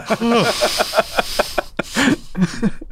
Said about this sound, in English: Sometimes I'll do a performative yawn. I'll just be like...